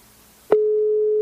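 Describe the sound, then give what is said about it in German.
A soft click, then a steady, clear telephone ringback tone begins and holds at an even pitch and loudness, like a phone ringing on the other end of a call. “Ich hoffe, ihr hört das Tuten auch.”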